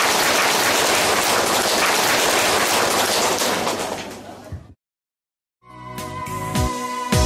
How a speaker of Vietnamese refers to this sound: Xin đạo tràng chúng ta dâng cao một tràng pháo tay.